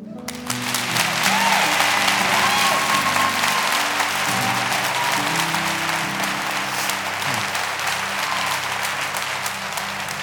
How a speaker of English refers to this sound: Church, I'll let you clap for that.